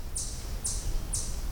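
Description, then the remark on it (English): A chipmunk gives three sharp, high chip calls at a steady, even pace, over a faint low background rumble. “This is a chipmunk.”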